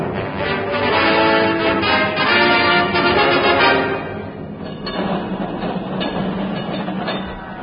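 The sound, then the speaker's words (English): An electric tram, London's last tram on 5 April 1952, rolls past, a loud steady rumble with metallic whining and squealing in the first half, then a lower clattering roll as it moves on. No voices. “And as I stand here on the great pavement, there goes the last tram.”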